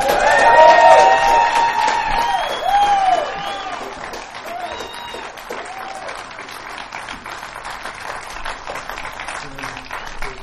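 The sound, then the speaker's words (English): An audience claps steadily, with a few high whoops and cheers rising over the applause in the first few seconds before it settles into a softer, even patter. “Well, come on, we can clap a little more than that.”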